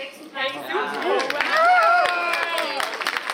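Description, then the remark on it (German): A large crowd in the Basel congress centre, Switzerland, cheers and whoops over steady applause, celebrating a clear referendum vote in favour of the city's ESC plans; voices rise in excited shouts, with the clapping continuing throughout at a loud level. “Jubel und Applaus im Basler Kongresscenter für das eindeutige Votum der Baslerinnen und Basler.”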